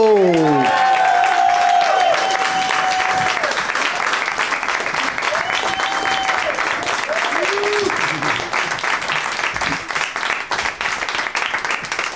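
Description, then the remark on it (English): A large crowd applauds loudly and steadily for about twelve seconds, with whoops and shouted cheers rising above the dense, continuous clapping, as an audience welcomes three guests. “Let's hear it for Henry Phillips, Wayne Fetterman, and Jimmy Pardo!”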